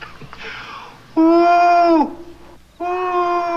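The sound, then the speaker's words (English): A man's voice imitates an owl with two long, steady hoots, the first ending in a slight downward slide, the second cut off. Both are loud and sung on a low, buzzy pitch. “doing his owl imitation. He's pretty good at it.”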